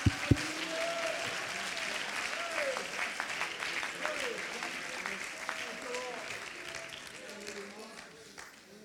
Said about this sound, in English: Oh, could you clap your hands?